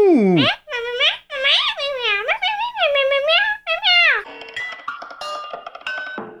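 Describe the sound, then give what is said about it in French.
A cat meows repeatedly, a run of loud, drawn-out meows with rising and falling pitch, then a few seconds of chirpy electronic beeps and tones. “Le Minou Pitou 2000 peut également comprendre le langage des chats.”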